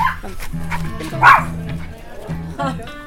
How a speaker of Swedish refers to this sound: Nu händer det något här. Hur många hundar sitter vi mitt i? 24. Brukar det vara så många hundar här? Det brukar vara mer.